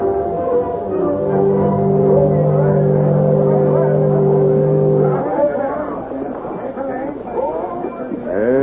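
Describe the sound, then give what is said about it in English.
The riverboat Susan B., the first boat down the river and loaded with gold, pulls in at a landing with a deep, steady horn-like drone held for several seconds over engine rumble, then the tone stops and voices and bustle take over. “First boat down the river and loaded with gold.”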